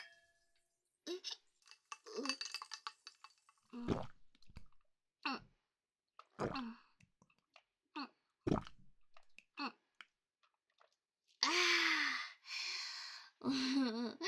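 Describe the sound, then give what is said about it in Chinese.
Drinking glasses clink together several times in a toast, with sharp, bright taps scattered over a few seconds, soft vocal sounds before them and a breathy gasp and sigh at the end. The drink is non-alcoholic. “来来来，再喝一点，干杯。”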